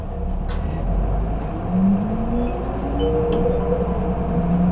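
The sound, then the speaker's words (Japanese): A bus pulls away from a stop after its doors close, its engine rumbling low and steady while a whining tone rises as it picks up speed. The sound is continuous, with no talking. “扉が閉まります。 発車します。お捕まりください。 発車いたします。”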